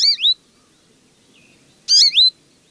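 Two bright bursts of songbird calls, quick chirping notes with sweeping high-pitched slurs, separated by a pause with a faint soft note in between; no voices present.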